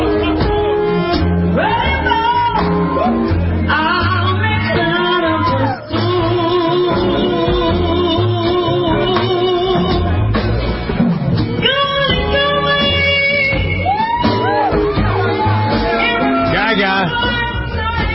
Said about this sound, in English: Getting some shout-outs from the crowd and an unexpected visit to a lounge in Los Angeles.